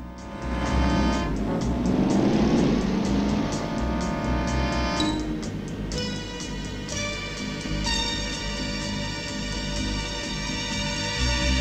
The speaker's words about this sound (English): He backs up and heads away briskly. He powers under a flyover and away. The black sedan is now in pursuit again.